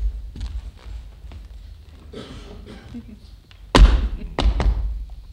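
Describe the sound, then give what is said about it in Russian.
A doctor knocks on the floor: a soft thud early on, then three heavy, booming knocks close together near the end, after a stretch of faint background murmur. “Доктор стучит. Милый, постучите, я не могу.”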